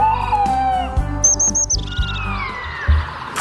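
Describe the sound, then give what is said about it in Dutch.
A black-tailed godwit calls in a quick series of four high, clipped notes, followed by a sliding call, all set over a rhythmic musical backing with low pulsing beats. “Ik hoorde al een grutto.”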